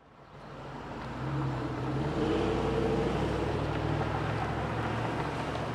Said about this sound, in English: This is the intersection of Kalamazoo Street and Burton in Grand Rapids. It's a windy day in this predominantly black neighborhood on the southeast side of the city.